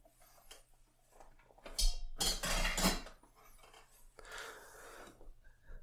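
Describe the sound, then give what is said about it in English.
A metal double boiler server pan, meant for serving with tea, is set down with a few loud clanks and rattles in quick succession, followed by softer scraping and handling noises. “Let me put this back down.”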